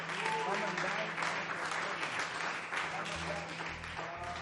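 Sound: audience hand clapping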